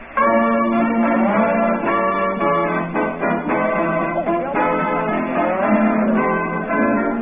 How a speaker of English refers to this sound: Originally, this was an old sea shanty, and that became a big hit when a new set of lyrics were added. You tell me the name of it.